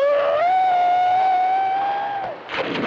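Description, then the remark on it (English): A monkey-man creature falling off a boat lets out one loud, sustained shrieking scream that rises and holds for about two seconds, then breaks off into a brief burst of rough, splashing noise. “Yeah, you know, this movie's trying to show me that monkey man falling off the boat and screaming.”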